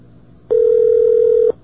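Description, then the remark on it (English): A single ring of a telephone heard down the line, a new campus telephone being called during a WUSB Radio live on-air poll of the campus phone system: one steady, mid-pitched electronic tone lasting about a second, fairly loud, with only faint background hiss before and after. “Besides, the new phones have such a soothing ring.”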